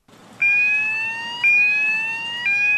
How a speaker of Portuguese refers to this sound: O alarme foi acionado. Um caminhão acabara de passar por detectores de substâncias radioativas. Nele foi constatado um nível alto de raios gama. Na sala de controle, uma voz de computador alerta. Gamma alarm. Gamma alarm.